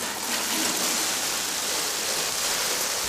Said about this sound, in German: In die Erde dürfen jetzt zum Beispiel Radieschen, Karotten, ein knackiger Salat rein in die Erde. Dann ein bisschen gießen.